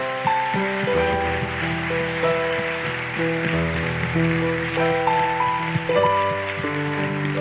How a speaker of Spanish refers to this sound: Si me puedes ayudar a ponerte de pie, les damos un fuerte aplauso, familia. ¿Cómo lo recibimos?